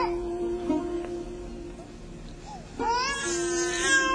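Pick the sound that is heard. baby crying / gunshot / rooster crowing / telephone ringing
baby crying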